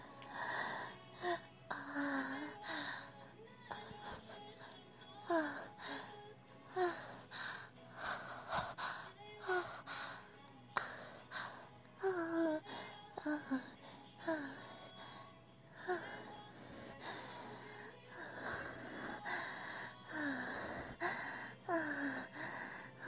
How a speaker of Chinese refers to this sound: 把玩具开到最大档，娇喘半分钟。 好，听好了，半分钟。